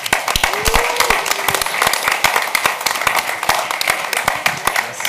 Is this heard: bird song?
no